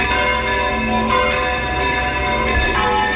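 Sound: church bells ringing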